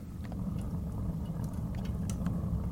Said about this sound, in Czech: Tak jsem si tu musel zatopit. A to je paráda, prostě sedět vedle toho a jen tak na to koukat. Je to takový relaxační moment. Moc fajn. Určitě to možná i slyšíte. Já dám ten mikrofon trošičku blíž k tomu ohni, abyste to slyšeli a užili si to taky.